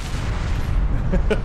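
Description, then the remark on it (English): Heavy, booming explosion sound effects from a film clip rumble continuously with a deep low roar, loud, and a voice briefly cuts in near the end. “our effects people did not scrimp on the explosions.”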